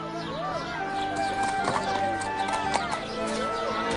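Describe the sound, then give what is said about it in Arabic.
The hooves of an Arabian horse being sold at a market clip-clop in an uneven rhythm amid a busy background of murmuring voices and other animal sounds, the steps fairly steady in loudness. “هذه يا سيدي أفضل الخيول العربية”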